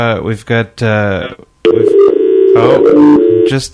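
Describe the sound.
A very enthusiastic Emilio Estevez fan speaks briefly over a phone line, then hangs up and the call cuts off into steady, buzzing telephone tones that hold at a mid pitch for a couple of seconds.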